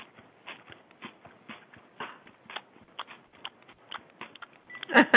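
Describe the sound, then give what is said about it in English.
Someone munching: a steady run of crisp, crunchy chewing bites in an uneven rhythm, fairly quiet at first and growing louder and sharper toward the end, with no talking. “He's hearing you're munching.”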